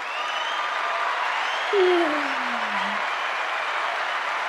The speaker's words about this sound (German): Applaus für einen Euro. Genau, Applaus für einen Euro. Mehr aber auch nicht, ne? Muss jetzt auch reichen.